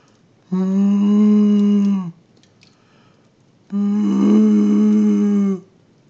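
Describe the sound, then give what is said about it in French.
Two long, low, foghorn-like booming calls of a Eurasian bittern, the mating call it gives when seeking a female, each lasting about a second and a half with a pause between them, steady and resonant, with no talking. “Alors il se met à chanter un chant vraiment étrange qui ressemble à une drôle de corne de brume.”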